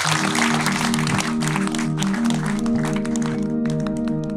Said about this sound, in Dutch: Jullie heel erg bedankt voor de aanwezigheid... en ook heel erg bedankt voor de goede vragen uit de zaal. Een warm applaus voor Philip Huf.